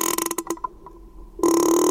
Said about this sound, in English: She made a sound like a creaking door hinge. It's one of the ways whales communicate and socialize.